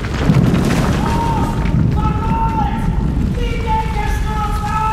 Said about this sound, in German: Als der Boden bebte und Wellen zu schlagen schien, wie ein vom Sturm aufgepeitschtes Meer,